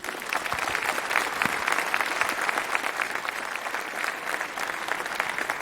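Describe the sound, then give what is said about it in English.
A large conference audience at the Congress claps steadily to welcome a speaker at the first talk of the day, a dense wash of many hands clapping at an even level throughout, with no one speaking over it. “with a big, warm round of applause and have a lot of fun.”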